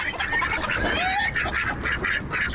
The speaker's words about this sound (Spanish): Así, así están las gallinas, muy contentas.